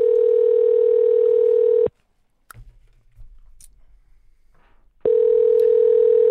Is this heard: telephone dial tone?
yes